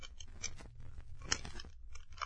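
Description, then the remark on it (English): Sherlock Holmes forcing the lock of a cellar door with metal instruments: irregular scraping, rattling and sharp metallic clicks over about two seconds, with one louder snap near the middle. No voices. “That is why I brought a few instruments with me, Watson, to force the lock.”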